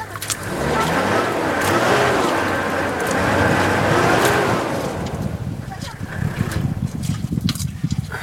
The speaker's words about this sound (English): This is sound of getting stuck in the mud in Chad on the way to Gaga camp. By the time I started recording this, we'd been stuck in the mud for 2.5 hours.